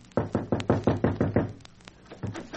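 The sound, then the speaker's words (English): Knocking on the wooden door of a cottage: a quick, steady run of about eight firm raps, a brief pause, then two softer knocks. “Tears were in my eyes, and I knocked upon the door.”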